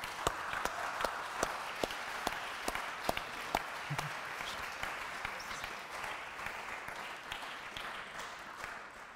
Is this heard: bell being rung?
no